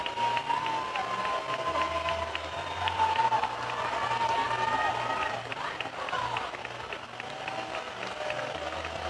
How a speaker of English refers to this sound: Crowd getting animated here at Witter Field. Get loud for the 3-2.